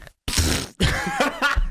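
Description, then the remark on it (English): A person blows a loud raspberry imitating a fart: two sputtering, buzzy bursts, the second longer and wavering, with no talking. “Your little fart noise, yep.”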